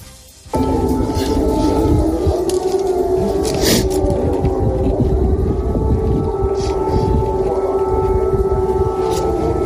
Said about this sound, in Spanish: Edificios residenciales atacados, civiles muertos, imágenes que nos sobrecogen, como los padres que acompañan el féretro de su hijo por las calles llenas de escombros mientras las sirenas antiaéreas siguen sonando.